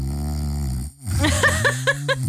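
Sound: person imitating loud snoring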